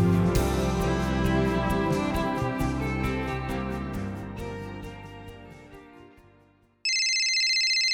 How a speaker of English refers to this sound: It's the phone again.